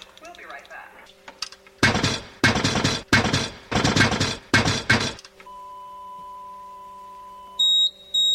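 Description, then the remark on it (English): A radio's electronic deviation alarm beeps in short high-pitched tones after a steady hum, as the tuned signal deviates, following several loud bursts of harsh static-like noise. No one speaks. “There's that deviation alarm again.”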